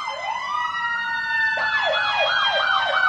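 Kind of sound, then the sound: vehicle, emergency vehicle siren passing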